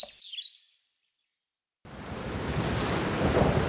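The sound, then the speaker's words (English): A few bird chirps, a moment of silence, then heavy rain suddenly begins on Christmas Eve in the countryside and keeps pouring as a dense, steady hiss that grows slightly louder toward the end. “I think we'd better just get out of the rain.”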